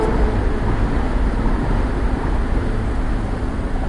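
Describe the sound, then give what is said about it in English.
A train rumbles past, a loud, steady low roar with rattling texture that holds constant throughout, with no voices present. “Too bad it's not an elevated railway.”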